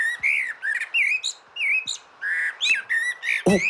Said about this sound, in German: Und hier ist noch die Amsel. Ja.